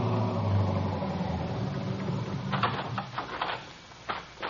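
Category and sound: vehicle, police car pulling up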